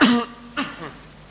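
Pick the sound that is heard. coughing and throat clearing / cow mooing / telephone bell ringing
coughing and throat clearing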